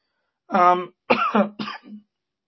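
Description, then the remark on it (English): A few dry coughs: a throaty, voiced hack followed by two sharper, raspy bursts, each under half a second, with brief pauses between and no talking, during a Bible sermon. “As I said, I'm still trying to get over this dry cough.”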